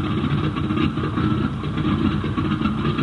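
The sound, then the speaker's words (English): A steady, loud airplane engine drones without pause, a deep rumbling hum with a constant mechanical roar throughout; a repaired fighter plane with a new engine. “The ship had a new engine, airworthy wings, and foolproof controls.”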